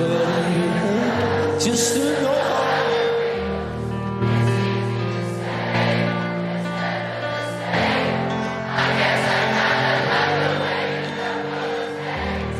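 A huge festival crowd at Glastonbury, England, sings a slow, melodic song together in place of the performer, who was losing his voice. Its many voices merge into loud, sustained notes that rise and fall in steady phrases, with a faint cheer near the start.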